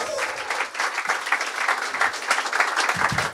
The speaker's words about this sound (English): Round of applause for Barry Pachesky from Deadspin. There he is.